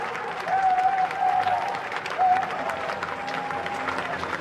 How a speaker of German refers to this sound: Wenn er spricht, wird er oft durch Jubel und Beifall unterbrochen.